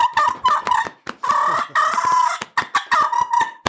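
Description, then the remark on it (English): A turkey fight and purr call: a rapid, irregular string of raspy, nasal purrs and clucks in choppy bursts, fairly loud and steady, with no talking. “You know, I'll do you a fight and purr. You want to hear that?”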